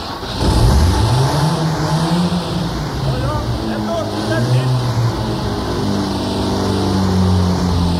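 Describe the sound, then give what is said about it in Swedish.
A car engine is started with its key, cranks and catches, then revs up and settles into a steady, loud idle with rising and falling pitch. “Och då ska jag bara dra igång bilen också. Så ska vi se om vi ska få den att starta också.”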